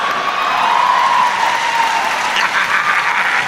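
Steady, dense applause from a large audience, a continuous wash of clapping with a few cheering voices and a faint whistle rising through it, holding at an even loud level throughout.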